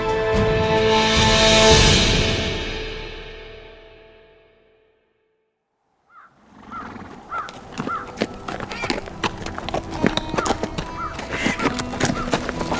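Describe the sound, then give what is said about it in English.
A sustained musical tone swells and fades into brief silence, then a horse's hooves clip-clop steadily, a regular rhythm of hoofbeats on a beaten forest trail with faint outdoor ambience behind. “Duncan McNeil reined in his horse and looked around him.”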